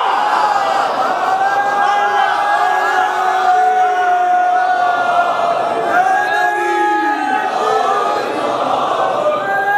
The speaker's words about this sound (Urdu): چاروں طرف سے نعرے لگتے ہیں تو گڑبڑ تو ہوتی ہے, لیکن مجھے خوشی ہوتی ہے کہ آپ کے جذبات کیا ہیں.